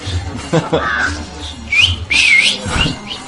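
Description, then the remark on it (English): A person whistles two short, high tones, the second one longer and rising slightly, with breathy vocal sounds in between. “You know whistle? You know whistle?”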